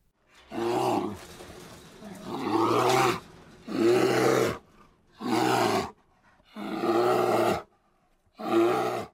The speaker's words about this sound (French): Oui, c'est un ours. Et l'ours grogne.